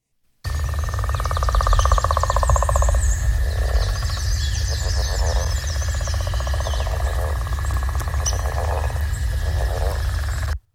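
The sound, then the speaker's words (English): A northern leopard frog gives a long, rattling snore-like trill followed by shorter grunting chuckles, repeated in bursts over a steady low rumble of background noise, with faint bird chirps above. “now we have the northern leopard frog.”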